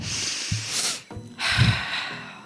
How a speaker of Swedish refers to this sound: Men du, nu ska jag bara andas ett djupt andetag.